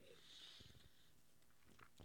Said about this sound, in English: Before we get started, let me take another sip of this fine Tecate.